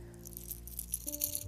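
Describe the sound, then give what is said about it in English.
A fishing lure rattles as it is shaken and pulled back with the rod tip, giving a quick run of bright, irregular knocks and clicks, like loose beads striking inside a hard shell, over a steady low hum, with no talking. “It almost sounds like it has a one knocker with a couple BBs in it.”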